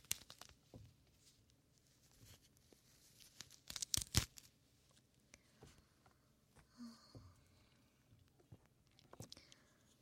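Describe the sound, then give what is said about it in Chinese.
Nylon stockings being torn: a quick cluster of sharp, hissing rips in the middle, surrounded by softer crinkling, scattered small rustles and faint whispery breaths, all fairly quiet. “想被姐姐用撕破的丝袜蒙住你的脸，堵住你的耳朵吗？”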